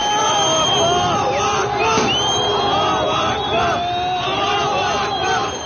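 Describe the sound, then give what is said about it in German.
A large crowd cheers and shouts in the streets of central Damascus, Syria, celebrating Assad's flight, many voices overlapping in a dense, loud roar with rising and falling yells and whoops throughout. “Im Zentrum von Damaskus gibt es nun Jubel auf den Straßen.”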